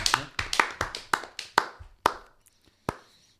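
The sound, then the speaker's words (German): A short burst of hand claps, around a dozen sharp slaps in a quick uneven rhythm that slows and thins out toward the end, with a couple of lone claps trailing after. No voices. “Einen kleinen Applaus innerlich, gerade wenn ihr euch hört. Auch einfach. Komm. Auch äußerlich, ja.”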